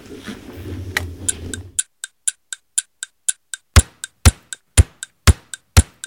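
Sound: clock ticking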